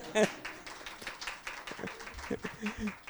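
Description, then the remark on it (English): An audience claps steadily for about three seconds, a dense patter of many hands at moderate loudness, with a brief voice or cheer rising over it at the start. “You can clap.”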